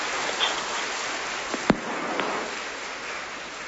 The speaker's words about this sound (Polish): Wielkie Bóg zapłać ojcu dyrektorowi i wielkie Bóg zapłać za te brawa. W ten sposób pozdrowiliśmy ojca dyrektora.